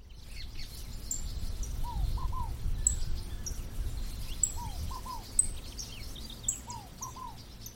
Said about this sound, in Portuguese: Nisto, a criança em seu sono mexeu a mãozinha. Foi a conta. Logo os passarinhos começaram a soltar seu cântico de júbilo.